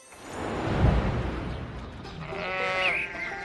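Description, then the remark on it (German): A neighbour's sheep lets out a loud, drawn-out bleat, its wavering harmonic cry rising and falling over a rumbling, noisy background, with no one speaking. “Bruder, wie laut kann ein Schaf muhen?”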